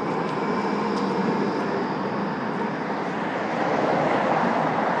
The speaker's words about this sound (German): Hier hört ihr ein wenig, so hört es sich unter der Brücke an, Akustikgeräusche